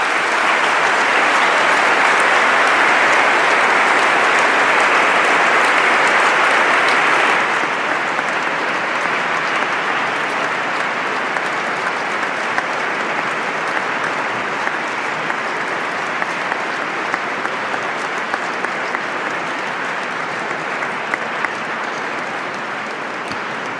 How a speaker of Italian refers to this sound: Grazie a tutti, gli applausi al Signore.